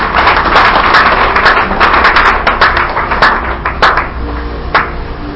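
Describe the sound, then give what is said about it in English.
A church audience claps for Jesus together in a loud, dense burst of applause lasting several seconds, with many overlapping sharp claps that ease slightly toward the end. No one speaks over it. “Clap for Jesus.”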